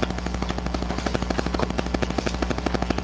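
A mobile phone vibrates during a council meeting with a steady, rapid rattling buzz, evenly pulsing over a low hum for about three seconds, with no talking.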